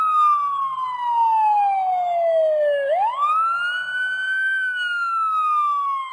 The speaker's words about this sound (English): In the distance, they heard a siren.